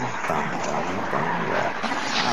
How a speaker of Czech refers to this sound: Teď už tady asi slyšíte autobus, ne, vy už ho teď neslyšíte, a hluk